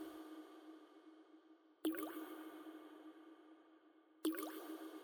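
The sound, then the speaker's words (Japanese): Two clear water drips land about two and a half seconds apart, each a sharp plink with a rising ring, over a steady low hum of background noise and no talking. “さあ、水音に耳を傾けて。”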